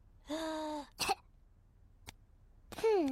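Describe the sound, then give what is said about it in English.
George, playing doctors with Peppa and Susie as Peppa listens to his chest, takes a drawn-out, voiced intake of breath, followed by one short, sharp cough. After a pause comes a brief click, then a falling, moan-like vocal sound. Nobody speaks. “Now, George, take a big breath in, then cough.”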